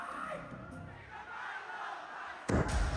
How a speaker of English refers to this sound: Oh, that's the confetti going off. Yeah. So the cannon was literally right next to the people that were standing to our left.